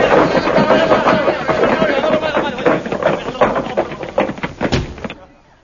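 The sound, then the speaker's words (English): A rapid clatter of doors being unlocked and banging open, a dense run of loud knocks and slams over about five seconds, with voices or crowd noise underneath, fading out at the end. “Who unlocked the doors?”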